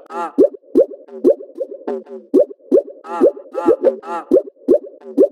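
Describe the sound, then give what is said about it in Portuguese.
Water splashing in a steady rhythm, a string of loud, hollow plops and gurgles repeating roughly twice a second, with no voices over it. “Olha o barulho da água.”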